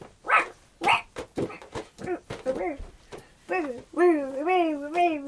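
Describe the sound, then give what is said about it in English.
A toy dog, a toy for a pet dog called Woof Woof, barks in a quick series of sharp yaps, then lets out a drawn-out, wavering whine. It is fairly loud, with no talking over it. “This isn't actually my pet dog.”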